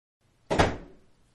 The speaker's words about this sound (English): You're going to hear me coming through the door, and then you'll hear me drop my coat and my briefcase on the counter, and we'll take it from there. Here goes.